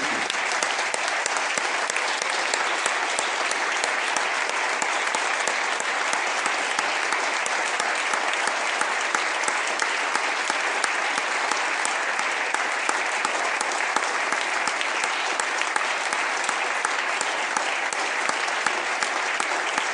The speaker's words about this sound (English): Let's give our pages a rousing applause, round of applause.